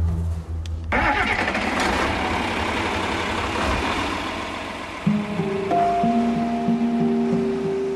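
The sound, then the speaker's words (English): A tractor engine on the Double R Ranch near Riesel, outside Waco, Texas, cranks briefly, then catches and roars to life, settling into a loud, steady rumble that shifts to a deeper droning idle partway through. No one speaks. “you want to help me get the tractor hooked up and we can get this started?”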